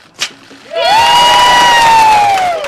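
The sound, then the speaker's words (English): At a ribbon cutting for an Odyssey House building in Mill Creek, after a brief sharp snap a crowd of staff, local politicians and reporters inside the long, single-story brick building bursts into loud, sustained cheering and applause, with one high whoop or whistle rising above the roar and holding steady until the end. “A crowd of Odyssey House staff, local politicians, and reporters gathered inside the long, single-story brick building in Mill Creek.”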